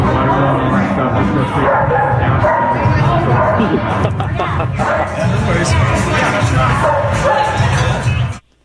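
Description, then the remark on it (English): Dogs bark and yip repeatedly in a loud, crowded restaurant, the barking mixed in with a steady hubbub of many people talking and clattering around them. “Tell me if you hear the dogs in this restaurant.”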